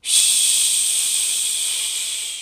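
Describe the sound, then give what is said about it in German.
During a children's yoga exercise, a voice imitates a dog lifting its leg at a tree and peeing, with one long, steady, bright hissing "psch" that holds for a couple of seconds and fades slightly at the end, with no other sounds. “Heb eins deiner Beine hoch und mach so, als ob dein Hund pinkelt. Psch.”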